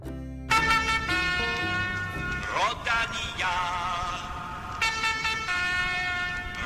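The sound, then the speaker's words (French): The musical horn of the Rodania lead car, which has opened Belgian cycling races since 1954, plays a loud, bright multi-note tune, its sustained tones stepping between pitches over a low engine rumble, with no talking. “La voiture Rodania ouvre désormais ce podcast comme il ouvre les courses cyclistes belges depuis 1954.”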